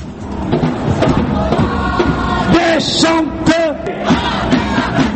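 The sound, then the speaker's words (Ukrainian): A dense, chaotic crowd yells and shouts during street riots in a French city, with loud overlapping cries, sharp clattering bursts of breaking glass and sirens rising from a constant roar of noise, as masked young people throw stones at police who answer with tear gas. “Вигуки, звуки розбитого шкла, сирени, арешти, яких за два дні офіційно нарахували вже 1100.”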